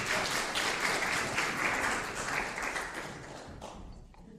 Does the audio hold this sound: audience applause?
yes